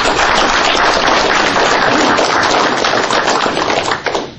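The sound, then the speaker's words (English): An audience applauds to welcome a speaker, with dense, steady clapping that stays loud and even for about four seconds, then begins to thin out and fade at the very end. No one speaks over it. “So if you all give a round of applause for Mr.”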